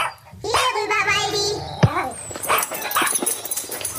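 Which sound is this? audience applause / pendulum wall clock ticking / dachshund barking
dachshund barking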